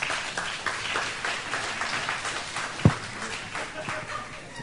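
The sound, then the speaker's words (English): An audience claps steadily for several seconds, a dense patter of many hands at moderate volume, with one sharper, louder clap standing out near the end. “I got claps.”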